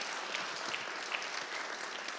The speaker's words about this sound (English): So giving back in a major capacity, so we can give a round of applause for that, for us just starting off like that.